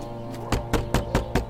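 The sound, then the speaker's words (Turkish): Five firm knocks by police on a house door, evenly spaced in a steady rhythm, fairly loud, with a low background hum and no voices. “Aç kapıyı, aç. Aç kapıyı. Abdullah Aksoy, kapıyı aç.”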